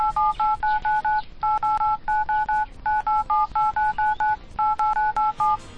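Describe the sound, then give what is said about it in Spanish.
Rapid keypad tones as a phone number is dialed on a mobile phone, presented as Ángel Expósito dialing a number or sending a message: a quick series of short, steady dual-pitched beeps in bursts with brief pauses, clear and alone with no talking. “Ángel Expósito marcando un número de teléfono o mandando un mensaje.”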